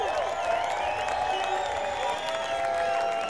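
After a song is performed, a crowd applauds and cheers a performer, steady dense clapping mixed with whoops and high shouted voices, holding at an even, fairly loud level for a few seconds.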